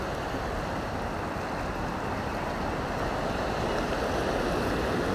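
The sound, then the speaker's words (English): Water pours over a weir and churns steadily into white water over the stones and rocks below, a dense, continuous roar with no pauses and no voices, heard from a pebbly beach as rain starts to fall. “There's white horses at the bottom of the water being churned up over the stones and rocks below, billowing out towards me as I stand on this pebbly beach.”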